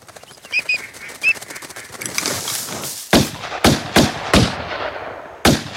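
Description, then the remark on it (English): Rapid fluttering of duck wings with a few short bird calls during a duck hunt, then a whooshing rush followed by five loud, sharp shotgun blasts fired in quick, uneven succession. “I heard some wind on wings.”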